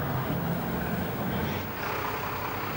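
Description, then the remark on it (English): A tow truck's engine rumbles loudly and steadily as it lifts a car that has just been ticketed by a parking attendant, a dense continuous mechanical drone with no voices. “John's lifting a car that's just been ticketed by another parking attendant”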